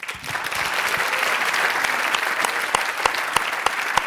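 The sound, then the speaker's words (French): An audience applauds steadily to welcome the young poet Mackenzie Orcel as he is brought in, a dense wash of many hands clapping at an even loudness, with a few sharper individual claps standing out toward the end. “On va le faire venir et on va l'applaudir.”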